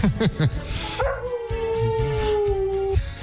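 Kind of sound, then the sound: animal, dog barking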